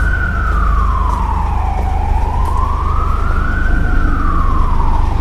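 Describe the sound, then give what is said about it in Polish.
An ambulance siren wails in a slow rising and falling sweep, loud, over a steady low rumble of engine and traffic noise, as the first ambulances drive off to a new hospital transferring young child patients. “Potem pierwsze karetki wyjechały do nowego szpitala.”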